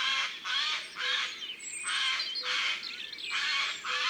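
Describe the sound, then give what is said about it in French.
A crow-family bird in a forest gives a series of harsh, raspy alarm calls at the presence of humans, about six rough bursts in a steady rhythm. The calls are loud, with no voices. “Il fait parfois des bruits bizarres, mais il est de la famille des corbeaux et ce ne sont pas des chanteurs.”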